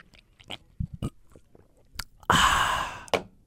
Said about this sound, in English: Now, both in the meme sense and for the sake of my throat, I will sip my tea.